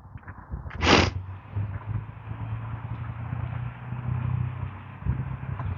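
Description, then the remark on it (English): A pickup truck with a loud muffler rumbles in a steady, deep engine drone, broken early by a brief sharp hiss or clatter, with no one talking. “It was just some guy with a really loud muffler on his pick-em-up truck.”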